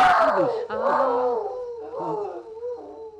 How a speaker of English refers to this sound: That sound. That's that dog. That's that Flash. Oh, dear. Him and his voice of doom.